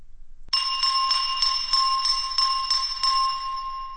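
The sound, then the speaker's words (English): A spoon taps a glass of water in a quick, steady series of about a dozen strikes, each adding to a bright, sustained high ringing tone that hangs in the air. No one speaks. “Then Draco Malfoy took up a spoon in one hand and a glass of water in the other, and began tapping, producing a clear ringing sound.”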